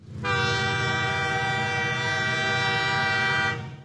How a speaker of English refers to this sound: Watch out! It's a train.